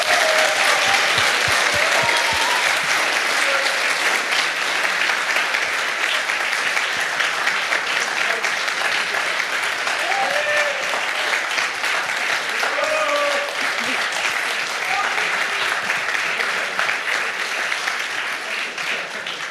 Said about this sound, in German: Ich würde sagen, das ist einen ganz großen Applaus nochmal wert.